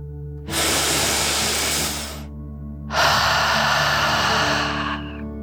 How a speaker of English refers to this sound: Before we begin our story, let's relax by taking a nice deep dragon breath. Breathe in through your nose, filling up your lungs, and then out through your mouth, imagining you are breathing fire like a dragon. Ready? Deep breath in and out.